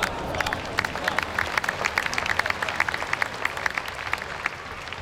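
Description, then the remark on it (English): A tennis crowd at the Australian Open breaks into sustained applause, dense overlapping handclaps rattling steadily for the whole stretch at a fairly even, lively level, with no clear voices standing out. “1 minute of sound from the Australian Open.”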